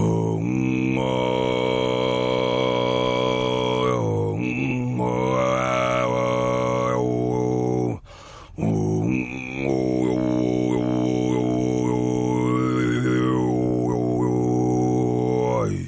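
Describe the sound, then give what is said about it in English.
Humi throat singing, an ancestral vocal technique meant to sound like wind or water: a deep, steady vocal drone with whistling overtones that glide up and down, sustained loudly throughout except for one short breath-like break midway. “Humi is the vocal technique that come down from our ancestors to us, and it started as a person trying to sound like wind or water, and it's a way of communicating to the nature.”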